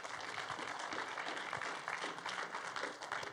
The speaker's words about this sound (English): If you've never been here before, we just love to clap for you. We want to honor you by clapping for you. So welcome to church this morning.